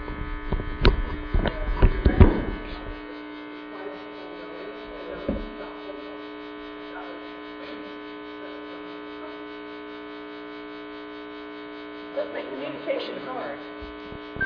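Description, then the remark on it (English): A very loud, steady electrical hum or buzz from the ceiling drones through the whole recording, a constant buzzing tone overhead, with brief muffled voices and clatter near the start and again near the end. “We got a humming in the ceiling here.”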